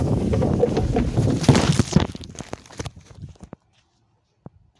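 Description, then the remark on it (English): A loud rushing, scraping whoosh of someone sliding down a hollow slide that is wet at the bottom, for about two seconds, breaking into scattered thumps and splashy clatter that fade to quiet, with one last sharp click. “And yeah, you're about to hear me go down the slide. It's wet at the bottom, but here we go.”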